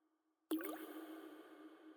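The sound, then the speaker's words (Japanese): Water drips with a sudden plop and a brief rising gurgle, followed by a steady, soft watery wash that carries on to the end. No voices. “さあ、水音に耳を傾けて。”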